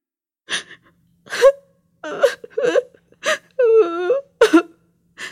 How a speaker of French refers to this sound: Ne pleure pas, Lali.